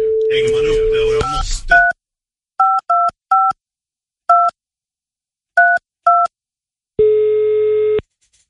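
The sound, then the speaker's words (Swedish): A phone dial tone under brief talk, then a string of crisp touch-tone key beeps at uneven intervals, ending in a single long, loud ringing tone, as a call is placed to a political odds expert at Unibet. “Och vill du så får du liksom gå och pudra näsan så ringer jag honom och så det ses vi vid 2.”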